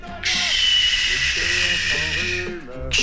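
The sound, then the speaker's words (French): A voice imitates a rain shower by blowing a steady, bright hiss between the two front teeth for nearly three seconds, while someone talks underneath. “Sale sifflement entre mes deux palettes, là, mais quelque chose comme ça.”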